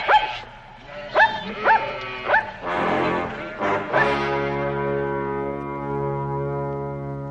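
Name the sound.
dog barking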